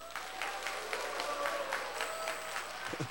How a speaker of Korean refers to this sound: 감사합니다. 어거지로 박수를 쳐주셔가지고 제가 또 재밌는 얘기 하나 안 할 수가 없죠.